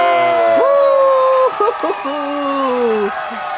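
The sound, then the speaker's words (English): A group of people cheers together, with sustained high whooping voices over a dense wash of crowd noise, steady and loud for about three seconds before briefly breaking up and continuing. “Give ourselves a cheer.”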